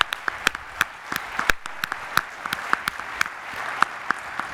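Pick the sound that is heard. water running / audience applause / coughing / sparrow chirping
audience applause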